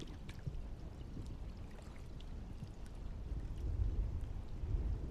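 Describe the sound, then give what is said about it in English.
Steady low sloshing and churning of water as a woman wades slowly deeper into a pool, a continuous wash that swells a little louder toward the end, with no voices. “Slowly, she wades deeper into the pool.”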